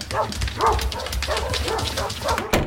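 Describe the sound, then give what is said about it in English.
Several dogs, Harley and other dogs with him, bark repeatedly in short, overlapping bursts, loud, with a steady low rumble underneath and a sharp bark near the end. “My goodness, it looks like Harley has company. Look, Mom, that one's licking Harley's ears. For the record, that's not weird for a dog.”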